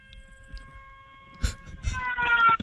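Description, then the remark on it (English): A homemade siren, built the week before, being test fired: a steady, buzzing multi-tone wail that swells louder toward the end, with a few thumps and bursts of handling noise. “I just test fired a couple of times, and I'm gonna let you guys actually hear the siren next on it if you want.”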